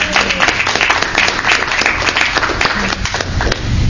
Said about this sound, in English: Round of applause.